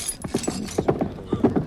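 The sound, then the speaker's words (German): Horse hooves clip-clop in a quick, steady rhythm, each strike sharp and distinct, with a brief neigh mixed in among the hoofbeats, as a hussar rides his horse through a market. “Mein Pferd braucht Platz!”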